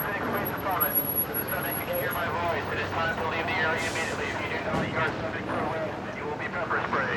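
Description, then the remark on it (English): A police helicopter drones steadily overhead, its low rumble constant beneath a noisy outdoor scene in Phoenix where a dispersing crowd of people is talking and shouting. “A police helicopter flew over the dispersing crowd.”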